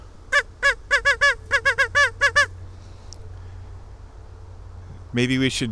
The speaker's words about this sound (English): There's no ducks back here, but maybe we should give them a duck call anyway.